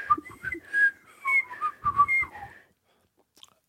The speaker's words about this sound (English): Have you always whistled? I used to be able, as a little kid, I could inhale whistle, and I had to teach myself to.